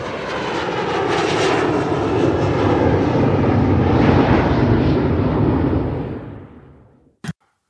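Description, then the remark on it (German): An airplane engine roars steadily and loudly for several seconds, a broad rumbling drone that then fades away, ending with a short sharp click. “Keiner weiß, wie und warum die Flugzeuge fliegen.”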